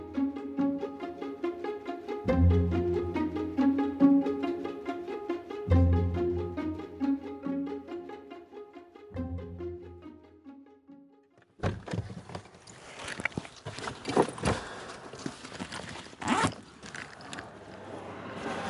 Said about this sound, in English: I know the Daily loves a good car closing sound.